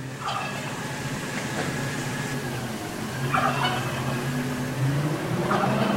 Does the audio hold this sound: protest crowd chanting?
no